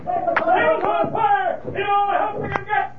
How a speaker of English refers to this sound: What's that? I don't know. It sounded like somebody hollering. Fire. That's what they're shouting. Fire!